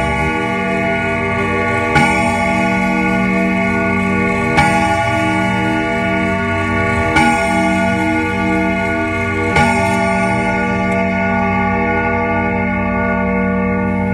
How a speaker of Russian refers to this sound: Вот, наконец, и наша стрелка уперлась в цифру 12. Большие часы стали неторопливо отбивать 6 ударов. Бом! Бом!